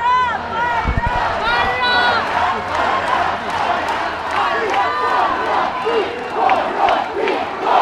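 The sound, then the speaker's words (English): An angry crowd shouts at government MPs leaving Parliament, calling out "corrupt, corrupt, corrupt, out"; many raised voices overlap in a dense, continuous roar of yells and jeers with rising and falling pitch and no pause throughout. “So the government MPs are leaving Parliament at the moment, and people are shouting out, corrupt, corrupt, corrupt, out.”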